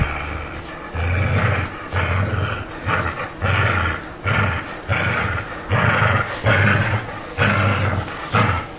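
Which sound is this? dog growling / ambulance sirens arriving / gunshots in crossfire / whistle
dog growling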